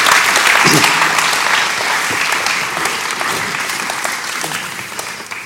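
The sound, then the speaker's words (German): An audience claps steadily for interview guests at the close of an interview, thanking them for their work, in a dense, sustained wash of applause, loud at first and tapering slightly toward the end, with a few voices faintly mixed in. “Einen großen Applaus euch und merci viel, viel mal für eure Arbeit und auch für das Interview.”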